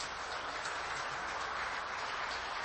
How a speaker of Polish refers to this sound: I tak, drodzy Państwo, wysłuchaliśmy przemówień powitalnych. Pani Prezydent Republiki Korei oraz Ojca Świętego Franciszka. Zauważmy, że te przemówienia zostały przyjęte oklaskami.